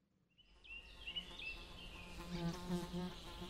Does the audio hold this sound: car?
no